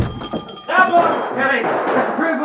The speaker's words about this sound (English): Let me get this door open.